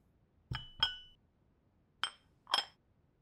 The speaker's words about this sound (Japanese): そしてこちらのタンブラーを両耳の近くに置かせていただきます。